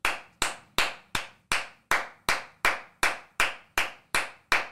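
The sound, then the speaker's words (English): Steady hand claps, about thirteen sharp, bright slaps at an even, moderate pace, each with a quick decay, with no voices. “Everybody clap it up.”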